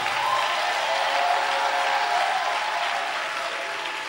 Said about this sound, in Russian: И весь народ Божий скажет, дайте Богу кто-нибудь аплодисменты и восклицание.